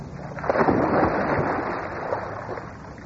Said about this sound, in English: He cut into the water like a missile and came up at mid-pool, shaking the water from his head.